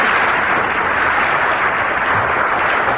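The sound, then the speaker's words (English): A large audience applauds steadily and loudly, a dense wash of clapping hands that holds an even level for the whole stretch, with no voices standing out. “That was line was drowned in the applause, Peter.”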